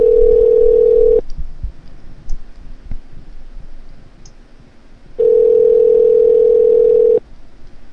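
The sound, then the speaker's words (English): A steady telephone ringback tone sounds twice, each burst lasting over a second, with a long quiet gap between them filled by faint line noise and small clicks. “And now fucking nobody's going to answer their phones.”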